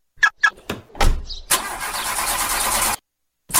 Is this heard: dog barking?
no